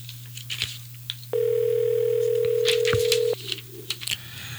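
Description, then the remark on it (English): A single two-second burst of an outgoing call's ringback tone, a steady, clear electronic hum over a low background drone, with faint clicks and rustles before and after and no talking. “Okay, now we're getting ringing. This is good. Good sign.”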